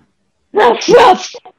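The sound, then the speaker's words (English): A person imitates a dog barking, giving two quick, loud, throaty woofs in a row, followed by a brief faint trailing sound. “No, I was barking.”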